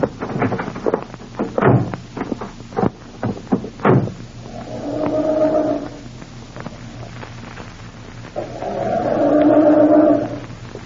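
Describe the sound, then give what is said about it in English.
A few sharp thumps and knocks, then two bursts of a car engine cranking with a steady grinding whine in the cold, each attempt dying away without the motor catching because the distributor cap is missing. “I'm starting this. I'm afraid it won't go.”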